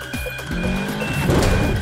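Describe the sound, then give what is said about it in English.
A car engine hums and revs steadily, its pitch shifting as it drives, with a faint high electronic tone running through and no one speaking. “I love these car sounds.”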